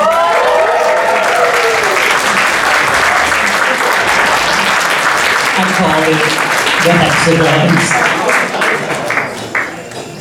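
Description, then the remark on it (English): A crowd at a costume contest applauds an award winner steadily with dense, continuous clapping, mixed with some cheering voices early on, then gradually thins and fades near the end. “Keep that applause going, everybody.”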